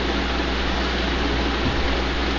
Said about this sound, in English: It sounds like we have a chopper landing pad there. Did you turn the fan back on? I don't know. No, I don't know why that sounds like that.